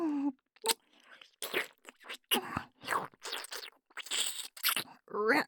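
Wet licking and smacking mouth sounds as a nipple is licked, in a run of irregular bursts, with brief breathy vocal murmurs at the start and end.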